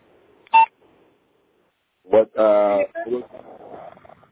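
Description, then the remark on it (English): A single short electronic beep sounds over a telephone line, followed after a pause by a muffled voice speaking. “You hear that tweaking? That beeping noise?”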